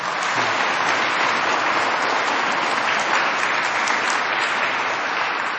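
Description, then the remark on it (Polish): A large audience at a religious retreat gathering applauds steadily to welcome guests, a dense, continuous wash of clapping at even loudness throughout, without any voices breaking through. “Brawa dla nich!”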